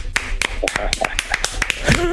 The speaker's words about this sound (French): Messieurs, nous avons notre invité donc ce soir. Je vous demande un tonnerre d'applaudissements pour le capitaine du Togo, oui. Emmanuel Adebayo.